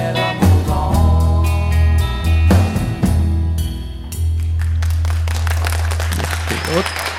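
A band's song rings out to its final chords, then audience applause takes over, a steady patter of many hands clapping that carries on loudly to the end.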